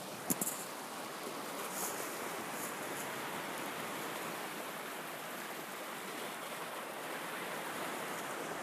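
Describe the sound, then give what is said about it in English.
A steady, dense wash of ocean surf and churning water, waves breaking on rocks at sunset, continuing without pause, with no voices present. “And we can hear the waves, and every wave that breaks on the rocks or the ocean slowly raises us up.”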